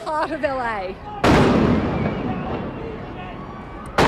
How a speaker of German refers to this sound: Bei einer Demonstration in Los Angeles wird diese Reporterin aus Australien vor laufender Kamera mit Gummimunition von Ordnungskräften angeschossen.